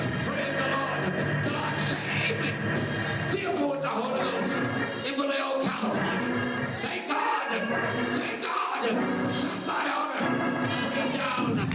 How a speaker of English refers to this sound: And I just keep on jumping. And after a while, my tongue got tied up. And I begin to speak in tongues. And I begin to praise Him. And I start shouting. I keep on shouting. Giving God the glory. Thank you, Jesus.